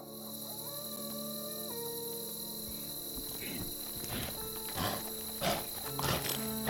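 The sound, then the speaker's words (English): Crickets chirp in a steady, high-pitched drone that runs throughout, their recorded volume raised by 6 dB, layered over lower animal-like calls and a few louder rustling bursts toward the end. “And then those crickets are finally present now.”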